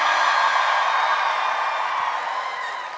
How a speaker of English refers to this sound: let's give another round of applause for our dad who's cosplaying as the Flush tonight